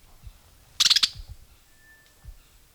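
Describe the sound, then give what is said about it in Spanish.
Alarm call of a blackbird (Turdus merula) caught and tangled in a mist net, at about 9:55 in the morning: a quick, loud burst of five or six sharp, high chinking notes lasting a fraction of a second, followed by near silence and a faint thin steady whine. “un sonido de alarma de dentro, cincla, merula.”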